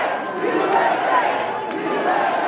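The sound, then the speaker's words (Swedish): A large crowd at the Kennedy Center roars with a dense mix of booing and cheering as President Trump and his wife Melania enter the hall, sharp whistles cutting through the steady, loud wash of voices; the boos give way to cheers when Trump raises a clenched fist. “Flera i publiken visslade och gjorde tummen ner mot presidentparet, men buropen överröstade sen av jubel när Trump höjde en knuten näve i luften.”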